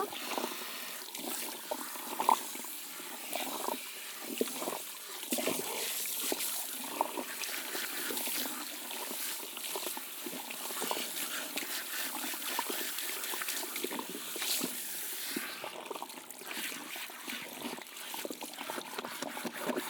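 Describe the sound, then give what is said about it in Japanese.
Steady stream of running water splashing and trickling over hair for the whole stretch, wetting it down to the roots to soften the scalp, with soft wet patting and rustling textures mixed in and no voices. “よし、じゃあ濡らしていきますね。最初にちゃんと根元まで濡らして、頭皮を柔らかくしますよ。”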